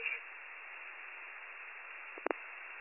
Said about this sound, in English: I heard you key up. Not getting anything after that.